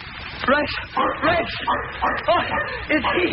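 A dog named Rex, in a car, barks and yips in a rapid, excited series of about eight sharp bursts, each a short high-pitched woof that rises and falls in tone.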